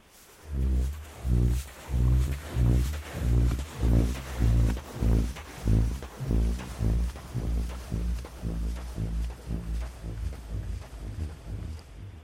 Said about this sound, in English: You said that one of the first places you went to was the American Southwest to hear sand dunes make a noise. We have a little clip from burping sand dune.